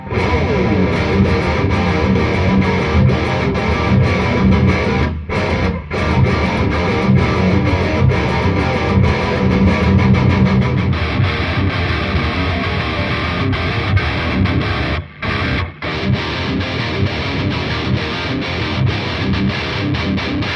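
Heavily distorted electric guitar, played through an amplifier with a Boss noise suppressor in its effects loop, plays loud, sustained, dense chords for about twenty seconds, with a few abrupt, clean drops to silence between phrases as the noise gate shuts off the hiss.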